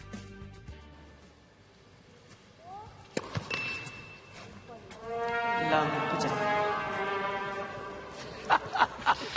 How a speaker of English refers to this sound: Somebody's got some sort of a slide trombone or something and is playing that sort of sad cartoon song after the double fault.